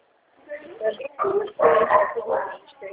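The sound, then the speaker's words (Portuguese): Dogs bark and yip in a run of fairly loud bursts over about three seconds, the sounds overlapping and uneven in rhythm. “Ai, desculpa, eu só não ouvi a senhora, me perdoa, viu? É o cachorrinho lá. Os cachorros aqui.”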